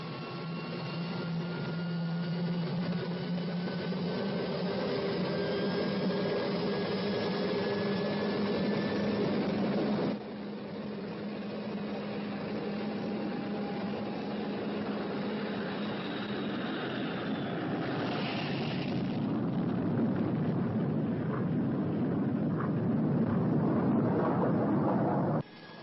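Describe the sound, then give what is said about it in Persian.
The engines of spacecraft number 08, cleared for takeoff, roar steadily through takeoff, a deep rumbling drone layered with humming tones and a thin whine, shifting at about ten seconds and surging in a brief rush near eighteen. “دریافت شد شماره 8، میتونید تکاف کنید.”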